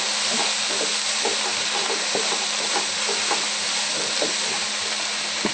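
Onions and red peppers, stirred and left to brown, sizzle steadily in a hot pan, a dense, even hiss of frying scattered with sharp little crackles and pops, with no voices.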